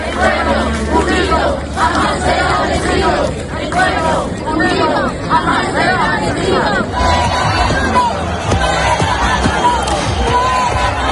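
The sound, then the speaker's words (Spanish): A large crowd of about 15,000 Venezuelan protesters at the Puerta del Sol in Madrid chants and shouts 'Fuera Maduro' and 'Maduro dimisión' in loud, rhythmic bursts, demanding transparency in the presidential election. Voices rise and fall over a constant roar of massed chatter and cheering. “Al grito de fuera Maduro, Maduro dimisión, cantando también el himno de su país, 15.000 personas se calcula que acudieron, por ejemplo, a la Puerta del Sol de Madrid para exigir transparencia en estas elecciones y el resultado de las actas.”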